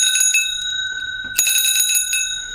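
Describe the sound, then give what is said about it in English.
A large revolving bicycle bell made in Shanghai, China rings in quick, bright, rattling bursts, with a sustained metallic tone, fairly loud, and a fresh flurry of rings partway through. “All right, I've got a rather large bell made in China, Shanghai to be precise.”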